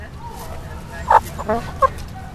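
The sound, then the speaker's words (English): A few short, throaty chicken clucks pop up in quick succession over a steady low outdoor rumble, with no clear crow, from four chickens and two roosters kept in a school garden at Castlemont High School in East Oakland. “Where we have four chickens and two roosters.”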